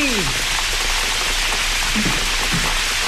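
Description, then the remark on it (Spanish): Steady, dense morning rain hisses continuously outside an open window at Cerro del Rebote, at an even loudness, a broad wash of patter with no breaks, joined by a brief falling tone at the start and a few faint low sounds underneath. “Bueno, sigue lloviendo en el Cerro del Rebote.”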